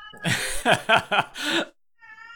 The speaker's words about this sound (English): Is it disturbing your recording? I mean, like, she's loud, but. I mean, when a cat goes off, what are you going to do?